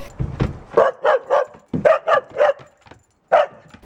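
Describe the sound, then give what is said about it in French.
A dog barks sharply, firing off two quick bursts of three yaps each, then a single final bark after a brief pause. No one speaks. “Mais oh, le chien part avec!”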